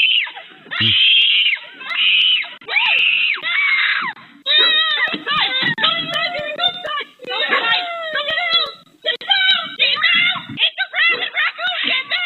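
High, shrill screams and chittering squeals from a baby raccoon, repeated in rapid bursts with wavering pitch, loud and continuous over about twelve seconds with no one talking.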